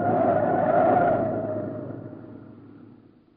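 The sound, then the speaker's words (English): A car going 65 miles an hour roars at speed with a steady droning hum and rushing noise, loud at first, then gradually fading away over a few seconds. No voices are heard. “Falling out of a car going 65 miles an hour is pretty serious business.”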